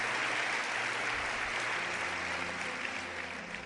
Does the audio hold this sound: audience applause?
yes